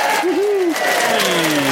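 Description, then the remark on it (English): A game show studio crowd applauds and cheers, a dense, steady wash of clapping with a few whoops and shouts rising above it, loud throughout. “I think we'll go back to being in the game show crowd. What do you reckon? We'll just join this crowd here.”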